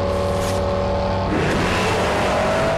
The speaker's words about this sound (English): Brian watches the Challenger shoot off down the street. Pierce follows a car's length behind.